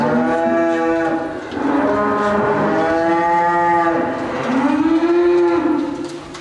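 Several cows in the stables of PIK Zemun, left unmilked, unfed and without water, moo loudly and repeatedly, their long, drawn-out calls overlapping one after another, with no voices present.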